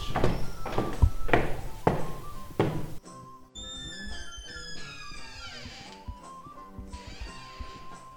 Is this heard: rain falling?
no